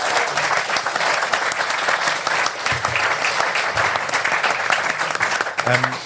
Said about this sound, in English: Can we give a round of applause to Clyde's contribution?